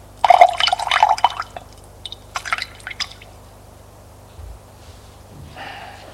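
A woman pours water into a glass, a burst of bright, trickling splashing, followed by a few scattered drips and clinks, then a quieter, softer trickle near the end.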